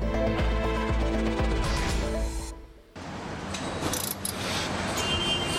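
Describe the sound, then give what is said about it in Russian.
Loud, continuous machinery at the Hyundai car factory in Saint Petersburg, Russia: steady mechanical whirring and humming with metallic clanks and ratcheting, briefly dropping away before a busier, hissing stretch of industrial noise resumes. “Это завод Hyundai в Санкт-Петербурге.”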